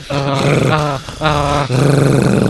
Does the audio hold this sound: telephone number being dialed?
no